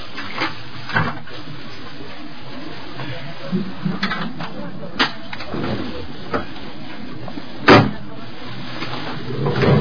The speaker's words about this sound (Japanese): 西鹿児島特急、燕13号、発車いたします。ドアが閉まりますのでご注意ください。